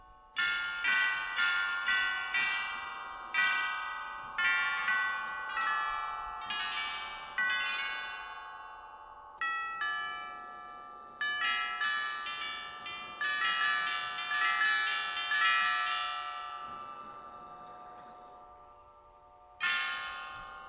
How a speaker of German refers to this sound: Ein Abstecher in den Hof des Museums muss aber noch sein, zum Glockenspiel, das natürlich der Zeit gewidmet ist.